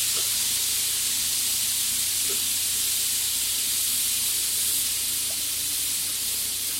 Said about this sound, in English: One sec. There's, like, a huge steaming sound. Hold up.